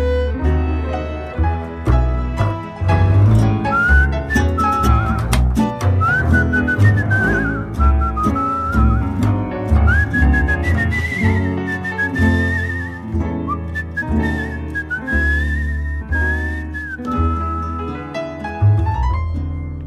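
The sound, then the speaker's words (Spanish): Someone whistles a song melody, a clear wavering tune that rises and falls in long phrases, carried over full, steady instrumental accompaniment with a strong beat and no voices. “Déjame que te silbe una canción.”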